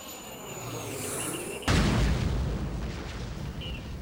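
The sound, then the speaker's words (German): A steady, whining jet engine roar builds, then a sudden massive crash and explosive boom as a plane flies into the World Trade Center, erupting into a loud, sustained rumbling roar that continues to the end. “Ein Flugzeug ist in das World Trade Center geflogen.”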